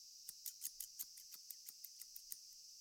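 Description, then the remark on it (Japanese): Cicadas clinging to trees in hot weather buzz in a steady, high-pitched drone, with a faint pulsing rhythm of sharper ticks running through it. No one speaks, and the insect chorus is fairly quiet. “セミも暑いから木から離れないんでしょうか。”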